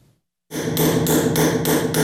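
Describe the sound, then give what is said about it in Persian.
An engraver's hammer taps metal in a steady rhythm in a workshop cell of one of Bukhara's famous old madrasas, Uzbekistan, about five or six bright ringing strikes roughly three per second, loud over a dense metallic clatter. No one speaks. “حالا از هر حجره مدرسه های نامی بخارا که چندین سال درهایش بسته بود، صدای سکه‌زنی کندکارها شنیده می شود.”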